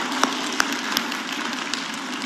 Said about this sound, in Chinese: 谢谢伊斯维尔团契啊，他们演得非常好，我们给他们一个掌声。掌声。